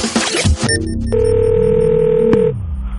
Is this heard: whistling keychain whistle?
no